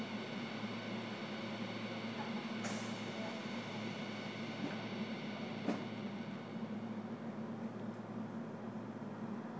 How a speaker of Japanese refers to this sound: ご乗車ありがとうございます。この電車は今里行きです。次は谷町9丁目、谷町9丁目、近鉄線は乗り換えです。出口は右側です。